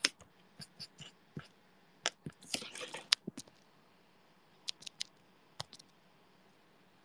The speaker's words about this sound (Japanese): もぐもぐ。もぐもぐ。